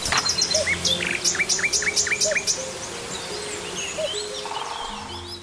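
Birds chirp and tweet busily, a rapid series of bright, repeated calls in the first half, with softer overlapping birdsong continuing afterward against a steady outdoor background hum.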